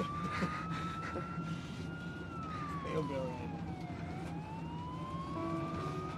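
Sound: emergency vehicle siren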